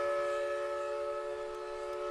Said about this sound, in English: On the days the mill is operating, a century-old steam whistle sounds at noon over Park Falls.